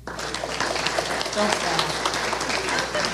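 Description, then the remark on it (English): Steady applause from an audience after a closing prayer, many hands clapping continuously at moderate volume with a dense, crackling texture and faint voices mixed in underneath. “Thank you, but you don't need to clap.”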